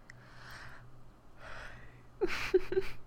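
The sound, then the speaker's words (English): A drawn-out yawn: two slow breathy inhales followed by a louder, voiced, wavering exhale, with no talking. “I'm sorry, I started yawning.”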